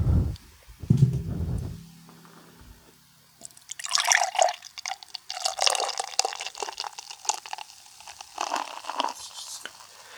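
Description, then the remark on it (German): A new beer made with cryo hops is poured into a glass: after a few low thumps and clinks, a steady splashing, gurgling stream fills the glass for several seconds, with fizzy bubbling throughout and no talking. “Ich habe schon überlegt, ob ich mir mal so eine Endlosschleife von diesem Einschenken mal so schneiden lasse”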